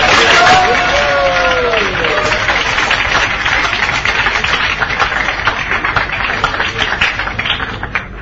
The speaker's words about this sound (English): Let's have a hand of applause for the translator.